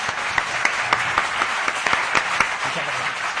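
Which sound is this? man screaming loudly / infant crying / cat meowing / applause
applause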